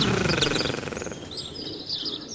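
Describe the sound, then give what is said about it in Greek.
Nightingales and a parrot call together in a busy, overlapping chorus of bright chirps and whistles that runs continuously without pause, moderately loud, with no voices. “Φωνάζουν όλα τα πουλιά, αηδόνια και παπαγάλος μαζί.”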